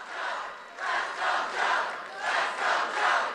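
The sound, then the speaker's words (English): A large crowd cheers in a steady, rhythmic chant, its roar swelling and dipping about five times in a few seconds, loud and continuous with no single voice standing out. “You're cheering insulin?”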